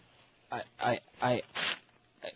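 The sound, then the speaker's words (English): Two faxed paper pages being torn up: five rough, raspy ripping bursts in an uneven rhythm, each lasting about a third of a second, fairly loud with short pauses between them. “I don't know what it is, and I'm tearing it up.”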